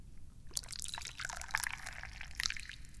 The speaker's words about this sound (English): I like drinking tea, so let's pour some.